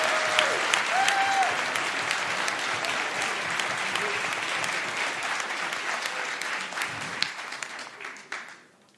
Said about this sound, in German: Denn jetzt brauchen wir noch euren Applaus für die Frage von Tim und den Babykarten.